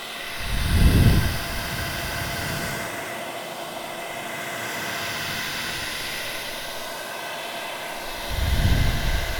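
hair dryer blowing

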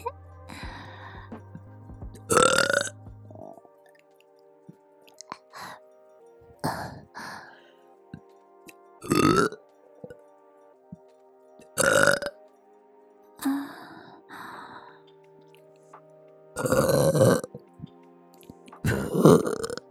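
burping

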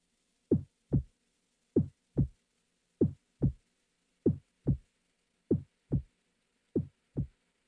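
heartbeat

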